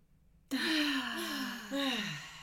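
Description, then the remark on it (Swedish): A long, deep breath drawn in all the way down into the belly, loud, starting abruptly after brief silence, with a slight voiced tone and a second surge of air near the end. “Och bara så här, vi kan bara andas in och andas hela vägen ner i magen.”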